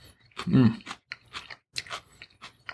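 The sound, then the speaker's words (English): Crunching of fresh salad, a series of irregular crisp bites and chews with moist, snappy bursts, loud, with a brief murmur early on. “This is really fresh and crunchy.”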